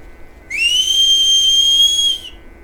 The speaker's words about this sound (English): Maybe whistle again.